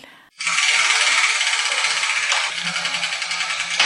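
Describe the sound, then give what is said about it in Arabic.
A steady, dense clattering rattle starts abruptly and runs for several seconds as a letter wheel spins for a letters game segment, 'Dunya al-Huruf', with small pieces clicking rapidly against it, loud and continuous with a slight pulsing rhythm. “وهو كذلك، وأنا بانتظار أن يدور دولاب الحروف.”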